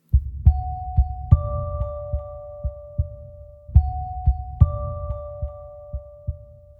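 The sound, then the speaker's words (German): A loud heartbeat thumps in a steady double-beat rhythm, sounding instead of a doorbell when a bell button is pressed, layered with two sustained chime-like tones that ring out like a doorbell and repeat midway through. “Aber statt eines Klingelgeräusches erklang ein lautes Herzklopfen.”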